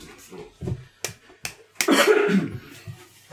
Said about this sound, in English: I'm just going to have a bit of a cough, though. So a bit of a tickle.